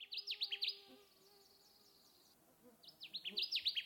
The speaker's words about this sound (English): We have a clip of the song of the Connecticut warbler, courtesy of the Cornell Bird Laboratory.